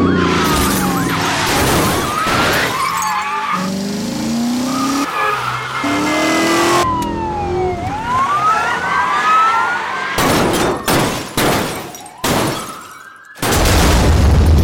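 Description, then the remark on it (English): A loud car chase from the Car Chase Elements sound effects library by Blast Wave Effects: engines roar and rev, tires squeal and skid repeatedly, and a wailing siren rises and falls through the middle, with sharp bursts of noise near the end. “Buckle up and feel the need for speed with Car Chase Elements.”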